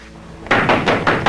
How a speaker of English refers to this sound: Later, Lenny holds his gun as Eddie knocks on an apartment door.